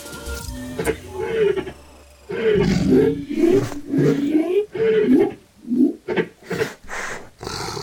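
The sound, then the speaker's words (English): A big cat, one of several turning towards a hunting party, lets out a loud, deep, rumbling roar after a quieter opening, then breaks into a run of shorter, pulsing growls that rise and fall to the end. “The cats are turning towards us.”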